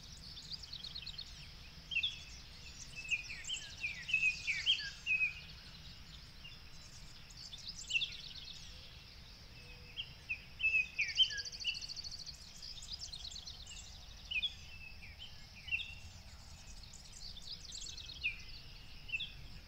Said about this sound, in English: Can you hear the sounds of birds waking up with the sunrise?